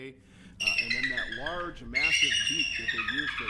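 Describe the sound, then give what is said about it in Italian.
A bald eagle's shrill, chittering call rings out loud in a long high-pitched run, with a person talking underneath it. The eagle has a wingspan of over 2.5 metres; the encounter takes place between Nelson and Wabasha. “È proprio lei, la grande aquila americana, che mi accoglie per un incontro ravvicinato come mai nella mia vita.”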